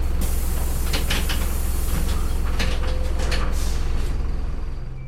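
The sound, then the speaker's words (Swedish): The old, rusty doors of a bus stopped on a street open with a hissing, clattering mechanical rattle over a steady low engine rumble, loud, with several sharp bursts of noise before fading slightly at the end. “Dörrarna öppnas på bussen.”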